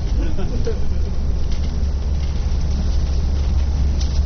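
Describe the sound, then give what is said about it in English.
A steady low bus engine rumble, constant and fairly loud throughout, with faint indistinct voices of passengers murmuring underneath. “So we're going to disembark and get off the bus, and y'all can get out and see this.”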